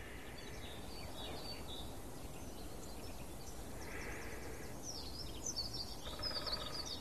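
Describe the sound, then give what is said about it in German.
A quick, twittering songbird sings faintly in the background, its thin melodic phrases rising over a steady wash of outdoor ambient noise, growing slightly busier toward the end. “Ich hoffe, ihr könnt es wahrnehmen im Hintergrund. Es ist so leicht fisselig, melodisch, schnell.”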